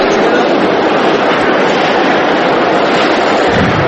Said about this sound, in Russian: Вагон метро, центр Парижа, 5 часов дня.